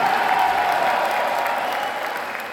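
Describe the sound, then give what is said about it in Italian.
Sustained applause from the delegates of the CGIL national assembly in Italy, in the early afternoon, greeting Maurizio Landini's re-election as general secretary: a dense, steady wash of clapping that holds loud throughout and eases slightly toward the end, with no voices rising above it. “La rielezione attesa scontata è arrivata nel primo pomeriggio tra gli applausi di delegati e delegate dell'Assemblea nazionale.”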